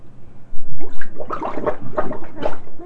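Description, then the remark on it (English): Bathtub water gurgles and glugs as it drains away, a steady rushing flow broken by bubbly, sucking bursts for a few seconds. “Let's let the water out.”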